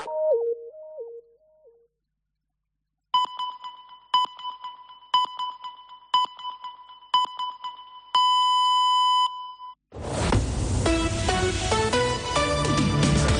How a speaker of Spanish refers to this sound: Senyals horàries de 2:45 del migdia d'aquest dilluns de Pasqua.